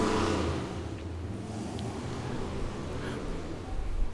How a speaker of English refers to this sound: As we allow the wind to go past, and we hear the motorcycles as well.